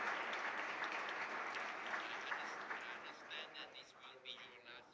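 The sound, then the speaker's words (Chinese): A crowd at a convention meeting claps steadily to thank the convention's executive director for his efforts, in a dense, crackling patter that holds for several seconds, then thins and softens slightly toward the end, with no one speaking. “我们所有各方都支持了，请大家鼓掌”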